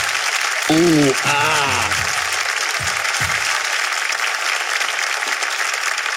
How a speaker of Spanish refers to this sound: Hoy un aplauso para ellos que la rompieron con ese tema.